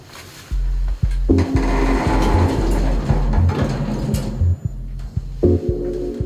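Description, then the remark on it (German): Elevator doors open and close with a mechanical whir, a button is pressed, then a steady low motor hum and rushing rumble carry the ride upward, swelling and easing over several seconds with a few soft clunks. “Tür auf, Tür zu, Knopf gedrückt und los geht's.”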